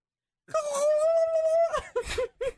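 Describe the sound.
A person imitates a turkey gobble with one long, steady, high-pitched vocal wail followed by three quick, choppy yelps, with no other talking.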